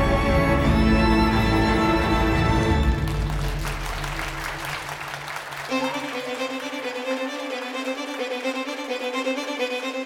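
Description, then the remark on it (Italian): A crowd claps steadily at a fashion design competition award, as Yves Saint Laurent wins first prize in the cocktail dress category. The applause swells under sustained orchestral music that plays throughout and continues after the clapping thins out. “Yves stringe la mano all'organizzatore davanti agli occhi della madre, che in prima fila applaude frenetica.”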